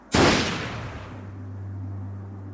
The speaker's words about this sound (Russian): Тогда у Гранта блеснул красноватый свет и раздался выстрел.